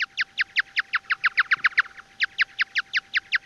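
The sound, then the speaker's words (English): Bat echolocation chirps from a flying bat, slowed down so the human ear can hear them: a fast, steady train of about twenty short, downward-sweeping calls, clear, with a brief pause partway through before the rhythm resumes. “As a bat is flying around, it's constantly making chirps and listening for the echoes.”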